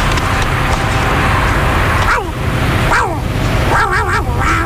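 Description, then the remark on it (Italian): A dog barks and yelps in a few short, wavering bursts over a phone line with interference, sounding thin, against steady loud background noise like passing traffic. “Che gli è stato a fare sto cane? Lo sento male, lo sento.”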